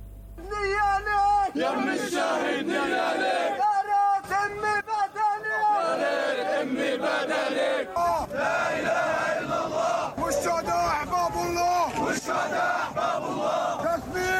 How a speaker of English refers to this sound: Mourners chanted slogans condemning Israeli crimes against Palestinians in the West Bank and the Gaza Strip.